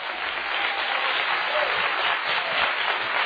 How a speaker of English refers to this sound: I think that deserves a rousing hand clap tonight of appreciation that he became our Passover.